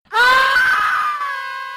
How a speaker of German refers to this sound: Was klingt wie das Kreischen in einem Horrorfilm, ist in Wirklichkeit Programmteil des Pfadfinder-Sommercamps Jamboree in Doxy.